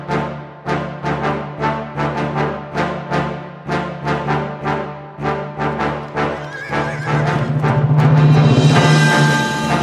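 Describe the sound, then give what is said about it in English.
Rapid, rhythmic hoofbeats of an old, weak galloping horse being ridden pound steadily, then swell into a loud, drawn-out neigh near the end, with no voices. “The longest ride of my life. The horse I had stolen was old and weak, and I had wearied it out ere I reached the gates.”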